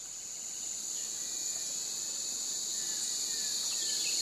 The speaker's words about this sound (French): On a l'impression d'être tout de suite transporté dans la forêt. Qu'est-ce que vous entendez ? Le bruit des feuilles, le bruit des oiseaux.